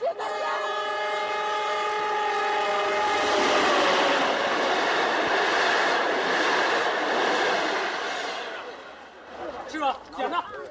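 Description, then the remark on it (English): A train passes on the tracks in a scene from the film Petition, with petitioners standing beside the tracks: a horn sounds as a loud rumbling roar swells, holds for several seconds, then fades, with voices heard faintly near the end. “In the film Petition, there's a scene with a number of petitioners standing next to the train tracks.”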